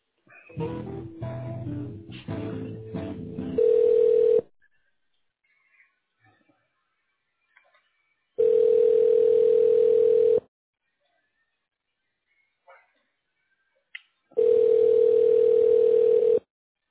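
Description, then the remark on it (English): A telephone ringback tone while a receptionist transfers a business call to another staff member: a steady, buzzy mid-pitched tone sounds three times in two-second bursts separated by silent pauses, after a brief stretch of muffled line noise. “Yes, I can go ahead and transfer you to her.”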